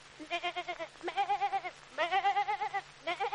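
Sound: imitated goat bleating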